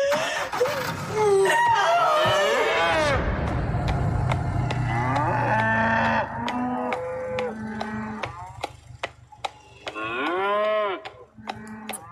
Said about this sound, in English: For those who obviously can't see that, there is that cow chasing a small calf in the back of a truck there. Pretty dramatic.